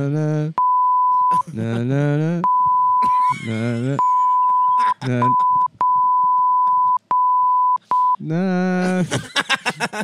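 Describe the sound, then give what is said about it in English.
A steady, high censor beep sounds again and again, several times in a row, alternating with bursts of a loud voice singing or vocalizing in between. “That one's the best one because it only makes sense with the beep.”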